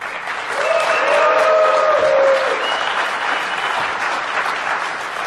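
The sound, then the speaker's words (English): At DEF CON, a crowd votes by noise for Matthew Schwartz as worst media coverage, bursting into loud, steady applause with cheering and a few high whoops in the first couple of seconds, then the clapping continues as a dense wash until the end. “So if you want to vote for Matthew Schwartz, make some noise.”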